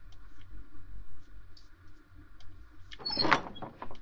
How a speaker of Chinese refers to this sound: 管家开门。